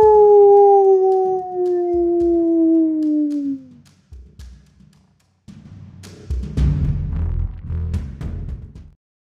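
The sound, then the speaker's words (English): A wolf howls one long, loud, slowly falling note lasting about four seconds, followed by a short pause and then a stretch of rough, clattering background noise. “Let's put the sheep to sleep. It's time for the wolf pack to ride. Ow!”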